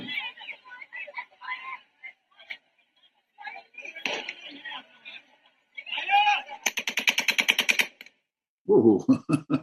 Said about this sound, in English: And you've all seen the video. Oh, here are your gunshots here.